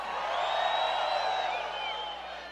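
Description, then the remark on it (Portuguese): A large crowd shouts and cheers in a sustained, loud roar, with high whistles sliding above the noise for a couple of seconds. “O homem que gosta de mulher de verdade, levanta a mão e dá o grito aí.”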